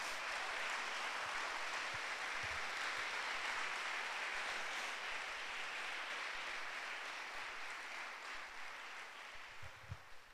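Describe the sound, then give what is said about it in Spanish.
An audience applauds for God in a steady, dense wash of clapping that holds for about ten seconds, easing slightly toward the end, with a few low thumps near the close. “Yo les digo que Dios es bueno, le damos un aplauso a Él.”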